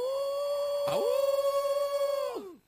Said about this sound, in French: quand les coyotes se mettent à hurler, à faire du bruit